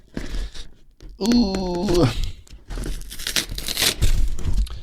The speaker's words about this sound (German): Mann, ich hasse Pakete aufmachen, ehrlich, Mann, weil die auch teilweise immer so viel Klebeband da drauf machen, dass du es halt nicht abkriegst.